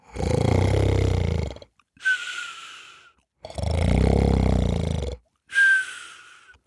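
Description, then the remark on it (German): Two loud, exaggerated snores, each a long rattling, rumbling inhale followed by a shorter whistling exhale, alone, likely a person imitating a wolf snoring as it sleeps in a soft bed. “Also legte er sich wieder hin und schlief ein und schnarchte, dass es klang, als wollte der Wolf einen dicken Baum mit einer Säge fällen.”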